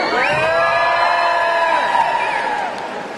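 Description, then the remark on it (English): A crowd at an event in New York City cheers and shouts loudly, many overlapping voices whooping in a sustained roar that holds steady for a few seconds before easing slightly at the end. “You can make a little noise. Let me feel you.”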